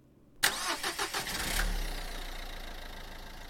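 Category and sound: vehicle, car engine starting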